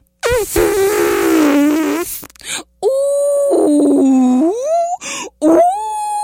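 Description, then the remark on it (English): A voice imitates an elephant groaning with long, loud, drawn-out moans that slide up and down in pitch, in several sustained bursts separated by short breaks. “Pretty soon, Elephant woke up, and Elephant started groaning.”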